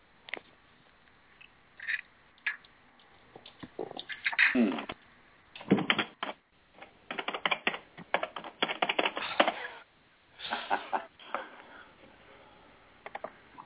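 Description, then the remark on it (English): Bursts of rapid typing on a computer keyboard, clicking keys in uneven clusters with brief pauses between, moderately loud, with no one speaking. “Yeah, he was on, and I think he's typing, or someone is typing.”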